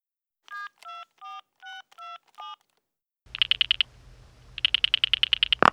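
Six evenly spaced telephone keypad tones beep in quick succession, clear, followed after a short pause by two bursts of a phone ringing over faint hiss.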